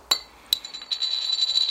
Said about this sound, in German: Kannst du mir mal so ein Wasser aufmachen?